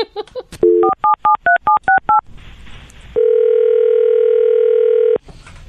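A quick, even run of about seven two-pitch keypad beeps as a phone number is dialed for a prank call to a cousin, followed by a burst of line hiss and a long, steady buzzing tone lasting roughly two seconds.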